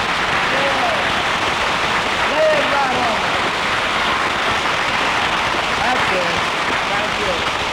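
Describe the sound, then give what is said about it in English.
A crowd applauds steadily for about eight seconds, a dense, loud wash of clapping that never lets up, with faint whoops and voices mixed into it. “Lay that applause on me.”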